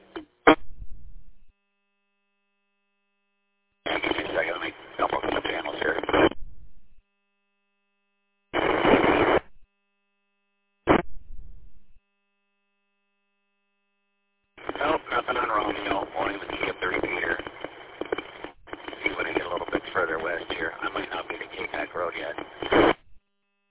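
Bursts of crackly, band-limited radio static from a repeater cut in and out between transmissions: a few short pops early on, then several seconds of steady hiss, with dead silence between transmissions.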